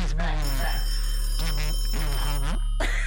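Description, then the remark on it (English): A telephone rings in a steady electronic warble while a call to a mayor is being placed, the ring tone pulsing in repeated bursts over a constant low hum, as if heard through a phone line. “He's on the phone.”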